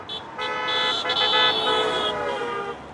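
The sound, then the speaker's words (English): Car horns blare almost continuously over rush hour traffic on downtown Juneau's busiest road, where more than 100 residents are protesting, with long overlapping honks, a couple of brief breaks, and a steady rumble of vehicles underneath, fairly loud. “He's standing with his mom and younger brother, alongside more than 100 other Juneau residents who joined the so-called Good Trouble protest along downtown Juneau's busiest road during rush hour traffic.”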